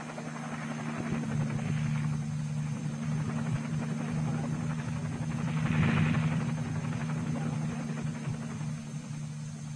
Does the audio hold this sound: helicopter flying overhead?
yes